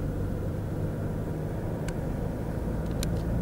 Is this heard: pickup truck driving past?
yes